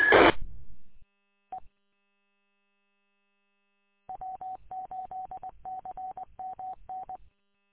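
A brief crackle of radio static, then a single short mid-pitched beep, followed after a pause by a quick run of repeated beeps in an uneven rhythm: a roger beep courtesy tone from an amateur radio, sounding when the mic is unkeyed. No one speaks.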